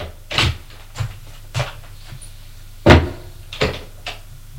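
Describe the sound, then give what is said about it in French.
A woman enters her daughter's bedroom: the door opens and shuts with a series of wooden clunks and rattles from the handle and frame, with one heavier thump near the end. Moderately loud, with no voices. “Pendant qu'il réfléchit à tout ça, la femme frappe à la porte de la chambre de sa fille. Entrez. Elle entre.”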